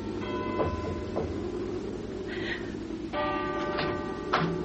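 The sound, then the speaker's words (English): A cathedral clock bell strikes twice, each stroke ringing out with bright, sustained overtones that slowly fade over a steady low rumble. No one speaks. “As the cathedral clock struck, Miss Beringer went nervously downstairs and across the hall, hesitated, and then knocked on Mrs.”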